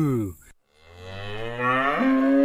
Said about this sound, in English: That's right. This is a cow. And do you guys know what sounds a cow makes? You got it. Moo.